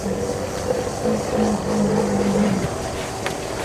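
A steady, loud mechanical drone of a helicopter, with a low engine hum and a whirring tone holding constant, heard from inside the aircraft as it lurches about over the savanna in South Africa while rangers pursue a white rhino.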